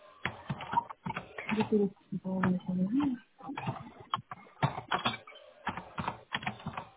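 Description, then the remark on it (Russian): Rapid, irregular clicking of fingers typing on a computer keyboard, writing up a service request for an intercom, steady in bursts with brief pauses, while a voice murmurs faintly in the background. “Я просто предупреждаю, сейчас я дописываю вашу заявку на домофон, сейчас пишу ее.”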